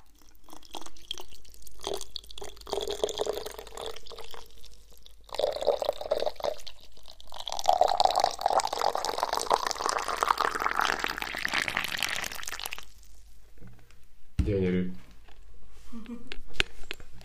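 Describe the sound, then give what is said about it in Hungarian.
Water pours steadily from a height into a huge mate gourd, a continuous hollow splashing stream that swells and shifts in pitch as it fills, then stops, followed by a few faint clinks. “Tényleg más a hangja, mint ahogy említetted, mivel ez egy hatalmas kujába érkezik a víz.”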